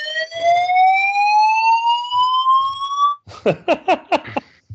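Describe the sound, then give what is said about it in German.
A fire alarm sounds, first as a steady electronic tone that slowly rises in pitch for about three seconds, then as a quick run of five or six loud, harsh beeping pulses. “Feueralarm. Was ist da los?”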